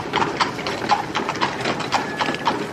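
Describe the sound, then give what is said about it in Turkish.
Hooves of a horse-drawn carriage clip-clop in a steady, even rhythm, each hollow knock crisp and bright over a constant rolling rumble of wheels. “Arabacı sen bizi eve bırakıver.”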